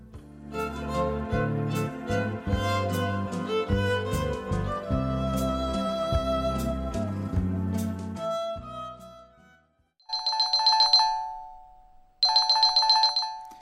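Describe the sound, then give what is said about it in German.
A telephone rings twice in short, bright trilling bursts with a pause between them, following a stretch of music that fades out, in a radio reading of the Korean story Tongyang by Pan Su-yeon. The rings are loud. “Ich war eingeschlafen, als das Telefon klingelte.”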